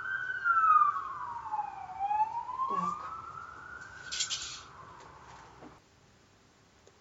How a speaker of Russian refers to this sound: Слышали сирены? Говорит, спешу на помощь.